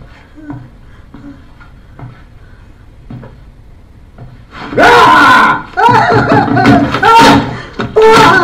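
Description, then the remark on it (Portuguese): Faint, evenly spaced knocks or rattles at a locked door repeat for several seconds, then loud, strained vocal sounds burst in and dominate the rest. “tá pra destrancar a porta.”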